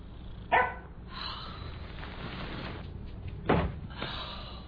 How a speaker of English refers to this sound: the dog.